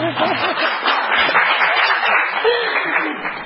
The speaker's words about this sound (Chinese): 有掌声欢迎。